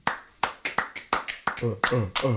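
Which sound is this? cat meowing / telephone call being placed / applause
applause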